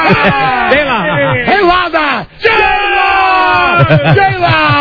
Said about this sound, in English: J-Law! He loves that. We love screaming her name. Oh, wow. Oh, we love screaming her name.